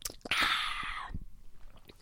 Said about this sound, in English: Time for a sip.